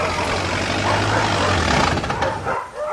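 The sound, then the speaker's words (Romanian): A car engine rumbles as it drives into a narrow street in Bucharest on a very hot summer day, its low hum steady before cutting out as it stops in front of a gate, leaving a brief quiet. Hundreds of dogs behind fences bark through the noise. “O mașină, întovărășită de lătratul și de hărmălaia de nedescris a sutelor de câini din dosul gardurilor, a intrat pe străduța unde stăteam la fratele meu, Liciniu.”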